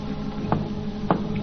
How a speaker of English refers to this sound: Now they hear a signal being tapped on the outer door.